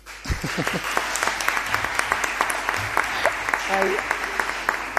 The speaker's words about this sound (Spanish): Otra cosa, fijaros, en los plenos, para que sepáis cómo funcionan, en los plenos no se puede aplaudir, pero hoy os dejamos. Sí, hoy, si no hay ningún voto en contra, os dejamos, porque también tiene el pleno un carácter lúdico y de aprendizaje.